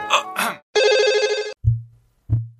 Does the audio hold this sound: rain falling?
no